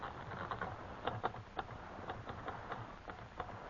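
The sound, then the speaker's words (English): Typing Mr. Conklin's name on a manual typewriter: a steady run of sharp key clacks at an uneven rhythm, fairly quiet and set against a low background hiss, with no voices. “I can type in Mr. Conklin's name above it.”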